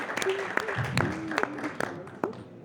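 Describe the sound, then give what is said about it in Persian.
Audience applause for the mayor of Hamedan, Iran, over an award won by the city: a steady patter of many hands clapping at moderate volume, with a few sharper claps standing out and some indistinct voices mixed in underneath. “دعوت کنم در این قسمت از برنامه با کمال افتخار و امتنان از جناب آقای مهندس صوفی شهردار محترم همدان که ایشون رو تشویق هم بفرمایید به خاطر این جایزه زیبایی که از آن شهر همدان شد.”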